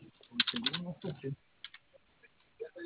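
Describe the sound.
Quick bursts of keyboard typing, a dense flurry of clacking keystrokes followed by a few scattered taps, moderately quiet, with a faint murmuring voice partly underneath.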